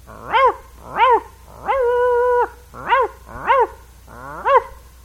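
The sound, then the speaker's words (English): A dog gives a run of short, high, yelping barks, about five in a steady rhythm, with one longer drawn-out whine in between, fairly loud with no one talking. “And those little big old lazy dogs.”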